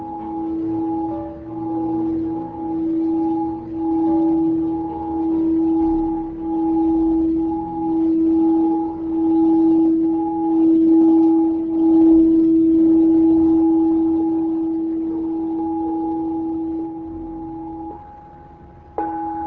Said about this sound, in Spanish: Vamos a ir relajando con el sonido de un gong de cuarzo que nos va a ayudar más y más a entrar en relajación.